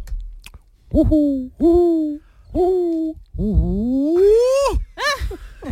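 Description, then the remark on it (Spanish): A person vocally imitates a hoopoe's call: three short hollow hoots in a steady rhythm, then a longer rising, wavering hoot and a quick final note, clear. “¿Tú puedes hacer la bubilla y yo a continuación te hago la bubilla satireta?”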